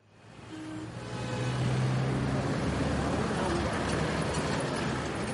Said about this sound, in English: Abidjan's distinctive orange taxis have been zigzagging through traffic here for decades. But recently, new competition has rolled onto the streets.